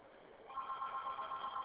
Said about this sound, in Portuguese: Telefone de quem está tocando?